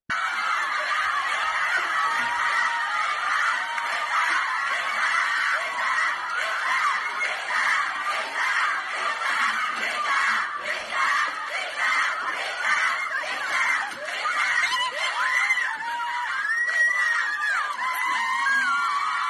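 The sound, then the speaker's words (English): A crowd of young women, none wearing hijab, shouting and shrieking together at a man and forcing him to step back: a loud, continuous wall of overlapping high-pitched voices with bursts of yelling and laughter-like cries throughout. “it is a group of young women who are yelling, that none of them have hijab on. They're yelling at this individual and they're just forcing him to step back, step back, isn't step that amazing?”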